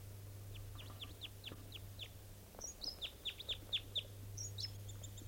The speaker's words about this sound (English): That sounds like there may be a type 2 bird around here. So, yeah, there's one in the top of that Doug fir. That was the song phrase in flight that it gave up on approach.